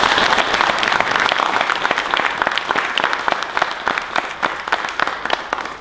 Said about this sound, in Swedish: Ja, då ger jag mig en applåd.